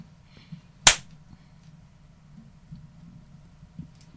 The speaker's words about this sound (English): Before we start, I have to do a little clap to synchronize the audio.